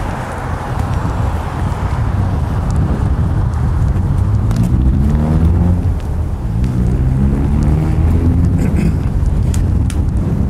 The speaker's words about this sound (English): We're now approaching the intersection. I have now made the intersection. You can hear the traffic's in front of me, going from left to right.